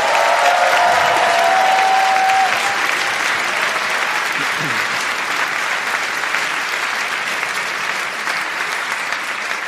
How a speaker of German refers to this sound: Und bevor wir loslegen, darf ich bitte mal einen tosenden Applaus für unsere wunderschöne DJ haben.